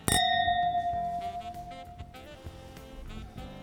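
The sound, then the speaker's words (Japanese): A single bright clink of glasses meeting in a toast with Shinshu Takayama Winery Merlot & Cabernet 2020 wine, followed by a clear high ringing tone that slowly fades over a few seconds while soft shuffling sounds continue underneath. “では乾杯。”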